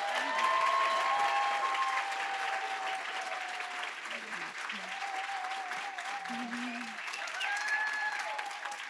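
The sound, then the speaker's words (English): A steady wash of applause from a large audience, with whistles and cheers rising above the clapping throughout, holding at a loud, even level for the whole stretch. “Crowd noise for the recording.”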